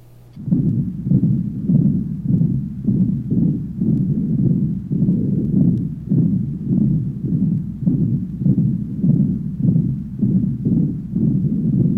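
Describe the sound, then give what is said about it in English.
A rapid heartbeat with tachycardia, heard over the lower anterior neck of a 24-year-old woman with tremor. Low, muffled thumps repeat steadily at a fast pace, about two beats per second, for the whole stretch, without any voices. “Case 7, female, age 24, tachycardia and tremor, lower anterior cervical area.”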